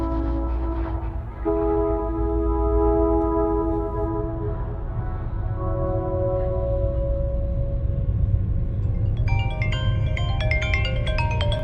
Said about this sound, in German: Eigentlich trennen München und Sachsen-Anhalt nur 3 Stunden. Dann ist man mit dem ICE in Halle an der Saale.